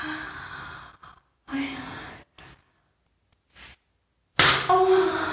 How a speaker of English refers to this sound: Oh. That was me slapping my pussy because I deserve it for being your good little slut.